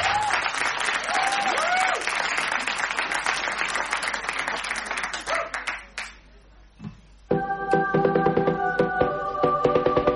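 Loud audience applause with scattered cheers and whistles fills the first six seconds, fades briefly, then gives way to music starting up.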